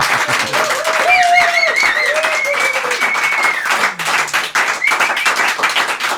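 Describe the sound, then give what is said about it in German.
A studio audience claps loudly and steadily for about six seconds, the dense patter of many hands punctuated by rising whoops and whistles. “Eine Riesenanzahl, Myriaden von Gäste, die sich jetzt mal mit einem kräftigen Applaus bemerkbar machen.”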